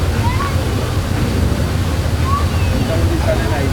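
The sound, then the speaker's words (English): Geyser water under a crest of rock, off a boat's port side, comes to a natural boil and spurts out like a tea kettle in a steady, churning rush, loud, with a heavy low rumble and constant frothy splashing throughout. “Every now and then, the water under that crest of rock comes to a natural boil and spurts out all over the place like a tea kettle left on the fire too long.”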